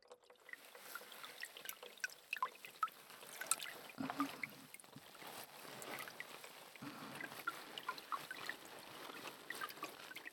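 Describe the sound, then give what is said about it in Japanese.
Wet, squishy scrubbing of a body towel working up foam for a full-body wash at a hot-spring bath, a steady crackling lather sound with small pops and splashes of water throughout, moderately soft and with no voices. “ボディタオルでしっかりと泡を立てて、”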